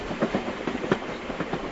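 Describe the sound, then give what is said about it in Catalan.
A train rolls past with a steady clickety-clack of wheels over rail joints, rhythmic thumps over a continuous rumble, moderately loud, with no voices. “o el pas d'un tren”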